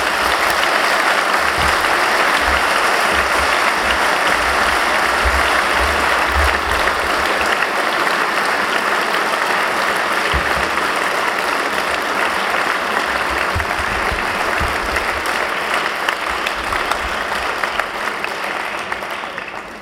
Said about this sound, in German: Sie haben gesehen, der Applaus zeigt es, Sie gehören dazu, beziehungsweise wir kehren zusammen.